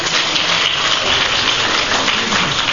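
A crowd claps together to show it recognizes the commercial slogan "the Breakfast of Champions", a dense, steady wash of many hands holding an even loudness for the whole stretch with no voices heard.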